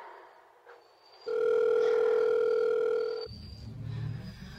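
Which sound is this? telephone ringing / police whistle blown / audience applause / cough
telephone ringing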